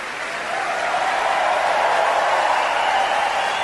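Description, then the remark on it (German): A large concert hall audience, prompted by the conductor, applauds steadily, a dense wash of many hands clapping that swells in during the first half second and then holds at an even, full level, with no voices. “Und den Applaus extra, den wir noch hören haben, den wäre nicht für irgendein, aber der wäre für euch.”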